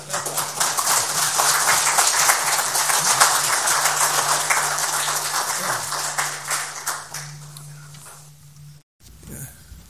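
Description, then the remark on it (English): A church audience, standing, applauds a man steadily and loudly for about nine seconds, a dense wash of many hands clapping with a low hum underneath, then it cuts off abruptly. “Will you all stand and give him an applause?”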